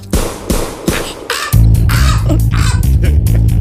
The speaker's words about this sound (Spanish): ¡Inspector, cuidado! ¡Esa gaviota que quiere quitarte bocadillo! ¡Largo de aquí! ¡Largo de aquí, pajarraco del demonio! ¡Largo!